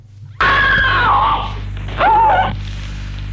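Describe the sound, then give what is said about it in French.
A woman screams in pain during an operation as a doctor works inside her body, loud: one long wavering cry, a brief break, then a second shorter shriek over a low background hum. “Elle crie de douleur et...”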